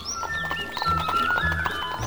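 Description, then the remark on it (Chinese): A horse runs, its hooves striking in a quick, steady clip-clop rhythm. A thin, high sustained tone hovers faintly underneath, and no one speaks. “马奔跑着”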